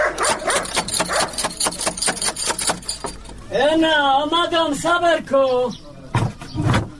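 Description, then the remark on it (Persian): A rapid run of knocks on a gate gives way to a dangerous dog at the house barking in several loud, drawn-out, tonal bursts, followed by two short, muffled sounds. “اوهو این چی سگ خطرناک داره که نخوریم.”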